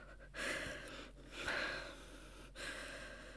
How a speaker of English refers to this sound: Why am I breathing like that? Like what? I'm breathing like any normal English professor would.